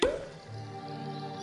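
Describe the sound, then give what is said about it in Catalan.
A bottle is uncorked with a single sharp pop right at the start, followed by a soft sustained tonal hum that lingers afterward. “Destapa.”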